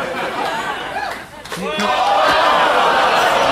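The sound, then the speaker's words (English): A single short thud as a donut thrown toward the crowd strikes a light and then hits a woman, half-buried in loud crowd chatter and shouting that swells right after the impact. “He hit a light and then hit a lady.”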